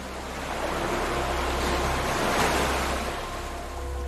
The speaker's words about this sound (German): Du gehst ein paar Meter und spürst, wie eine kleine Welle deine Füße umspült.